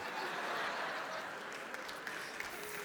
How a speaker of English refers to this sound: Now, some of you like that one a little too much. You've even applauded some of you sinners, I tell you what.